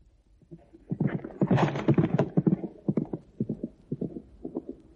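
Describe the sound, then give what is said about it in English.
Hooves of a young horse, the Cressida colt, clip-clop in a horse yard in an uneven trotting rhythm, a run of sharp hollow knocks that swell louder mid-clip and then settle into steadier, lighter steps. No voices. “there he goes, the Cressida colt. Settling down nicely in that fine horse yard you built.”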